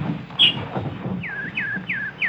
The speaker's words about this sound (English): Hello, pretty nightingale. Don't you want any seed? No? You just want to sing. Go ahead, you beautiful thing. Sing your little heart out.